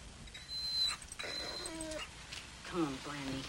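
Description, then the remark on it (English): A dog whimpers and whines in a string of short, high-pitched, nasal cries, with a thin steady whine at the start and a low background hiss throughout. “Why don't you walk the dog?”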